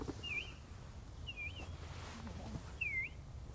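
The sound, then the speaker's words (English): Three short, sweet whistled notes imitating an Eastern Bluebird call, evenly spaced about a second apart, clear over a low outdoor rumble with no talking. “The Eastern Bluebird has a very simple, sweet little whistle. It sounds like...”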